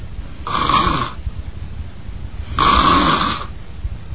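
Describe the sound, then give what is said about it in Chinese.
A storyteller's male voice imitates a young man who has fallen asleep and is snoring: two loud, raspy snores drawn in one after another, separated by a short quiet pause, with nothing else around them. “毕竟是年轻人呐、啊，吃得饱，睡得着，时间不大，打了呼噜了。”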